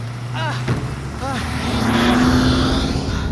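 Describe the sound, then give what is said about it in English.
A car engine revs up and drives off, its droning pitch climbing steadily as it accelerates, with brief shouted voices over the engine noise. “Come on, get in! Stop the car! Stop the car!”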